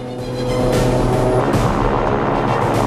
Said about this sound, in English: The twin-propelled plane accelerates down the runway.